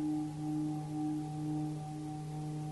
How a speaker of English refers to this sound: That's the low tone.